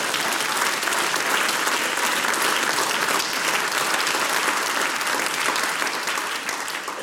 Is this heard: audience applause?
yes